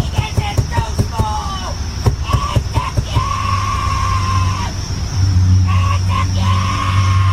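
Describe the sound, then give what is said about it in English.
A woman yells and screams on the phone in drawn-out, muffled bursts while sitting in her car with the windows up, over a steady low rumble of engine hum. “This crazy lady is sitting in her car, windows up, screaming on the phone.”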